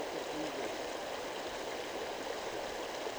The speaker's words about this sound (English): I'm really close to the stream.